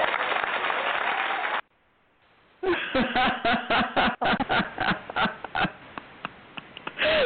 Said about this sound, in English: You know, really, the worst part about that is the applause.